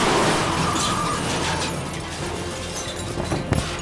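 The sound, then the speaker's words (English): A truck on Route 80, labeled Red Arrow Radionics, swerves to avoid oncoming motorcycles and crashes, overturning: a dense, loud roar of grinding noise runs throughout, with a few sharp clattering impacts near the end. No voices. “The driver swerves and crashes.”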